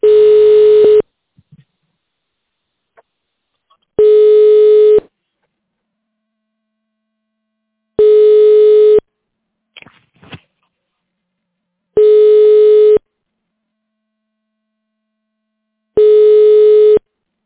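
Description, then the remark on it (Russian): A telephone ringback tone, heard while on hold after calling the company OOO Remstroygrupp, repeats five times, each steady one-second buzz followed by about three seconds of silence, with a faint click or rustle between tones and no voices. “Вы позвонили в компанию ООО «Ремстройгрупп». Пожалуйста, дождитесь ответа специалиста.”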